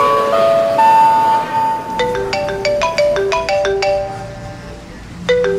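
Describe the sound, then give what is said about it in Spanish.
A mobile phone's cheerful electronic ringtone plays in an airplane cabin, a bright, bouncy melody of quick synthetic notes, loud, repeating its tune without any voices. “¿qué parte de no encender los celulares no entendió?”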